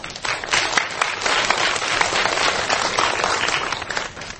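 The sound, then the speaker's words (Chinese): Sustained applause from an audience at a science lecture event, given to two professors, a dense crackle of many hands clapping at steady loudness for several seconds with no voices over it. “然后呢他们来主办这样的一个活动，是不是我们先给两位教授热烈的掌声。”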